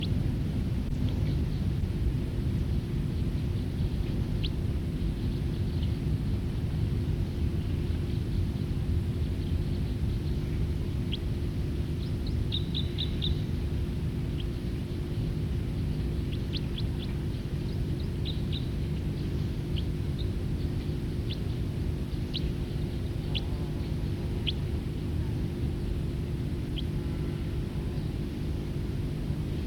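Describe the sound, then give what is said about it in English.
Faint, high bird song in short chirping phrases that recur every few seconds, set against a loud, steady low rumble that runs through the whole recording. “Back to song.”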